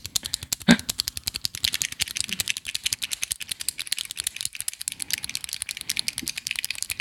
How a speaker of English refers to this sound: The pen has been clicked. Double click that pen. There it is. Click, click. I hope it comes up on microphone. Maybe. Let's just click a bunch of pens and see if they come up on microphone.